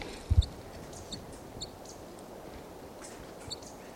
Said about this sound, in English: And that's the decoy crossbill there.